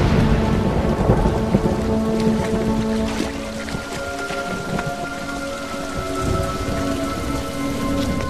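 Steady, heavy rain pours down continuously, with deep rolling thunder rumbling low beneath it throughout. A faint tonal hum sits in the background, and no one speaks.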